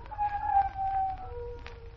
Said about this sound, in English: Sure is a lonely sound. Yep. That's because they don't go in packs. Who don't? Coyotes. Prairie wolves. They don't go in packs, you know, like timber wolves.